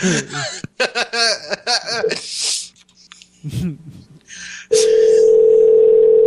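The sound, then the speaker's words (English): Chatter and laughter give way to a brief pause, then a loud, steady electronic phone tone starts and holds to the end, like a call being placed and ringing through. “Pick up.”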